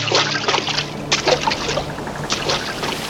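Rough sea water surges and sloshes in repeated loud bursts during a big storm at sea, over a steady hiss of falling rain, with a low hum underneath and no voices.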